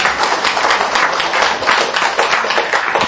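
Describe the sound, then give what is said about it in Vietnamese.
Steady, dense applause from a large audience at a Buddhist dharma talk, many hands clapping at once in a sustained wash of sound that holds at an even, fairly loud level without pause. “Cho một tràng pháo tay nữa đi cho nó lớn.”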